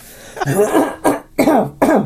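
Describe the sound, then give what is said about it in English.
A person fakes a cough, four forced, throaty bursts in quick, uneven succession, fairly loud, with no talking in between. “Okay, it doesn't work with the word cough for coughing. I tried that. Just tried that now.”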